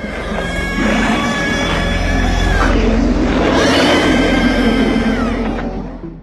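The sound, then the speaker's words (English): A loud, sustained monstrous shriek of the dog-creature in John Carpenter's film The Thing, made by combining heavily processed bird calls with pig squeals, swelling twice with harsh, warbling tones over a rumbling low bed before cutting off abruptly. “The shrieking sound it makes was created by combining heavily processed bird calls with pig squeals.”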